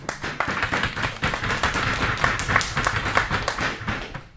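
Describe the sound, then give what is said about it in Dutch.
A small group claps steadily for a few seconds, a dense, even patter of many hands with no voices over it. “Jongens, je moet er nu even klappen, denk ik.”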